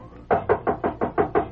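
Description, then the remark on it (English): A quick, steady run of about eight knocks on a door, evenly spaced and fairly loud, with no voices. “He's going to knock at the door.”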